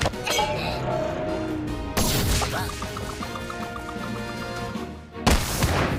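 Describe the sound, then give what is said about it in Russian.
A fast pitch thrown by a girl straight down the middle with wild force, called a strike, slams into a baseball bat and breaks it. Two loud, sharp cracking impacts burst out over a dense, busy background, the second followed by a splintering crash. “Страйк! Она мне биту сломала.”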